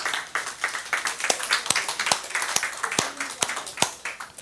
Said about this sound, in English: Great, thank you, and congratulations. Let's give them a clap again.